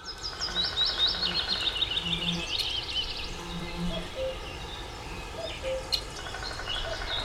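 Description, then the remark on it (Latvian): Birdsong with quick, high chirping trills that are busiest in the first few seconds, then sparser calls scattered over a steady, soft outdoor ambience. No one speaks. “nonācis tiešā saskarē ar autorei raksturīgajiem gleznu tēliem – putniem, ziediem, tauriņiem un ūdeņiem. Tēli atdzīvojas, kustas, elpo un skan.”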